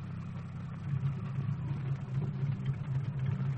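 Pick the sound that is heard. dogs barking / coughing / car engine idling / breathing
car engine idling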